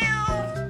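A single cat meow, loud, with a bright drawn-out tone lasting under a second and no talking over it.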